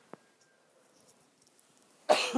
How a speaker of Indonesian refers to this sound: Sorry, batuk.